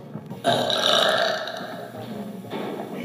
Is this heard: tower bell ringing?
no